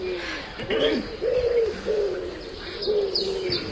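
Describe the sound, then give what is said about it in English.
Pigeons coo in a steady, overlapping series of low, throaty warbles, moderately loud, with a few faint higher chirps mixed in near the end. “I have been feeding pigeons, thousands of them for years.”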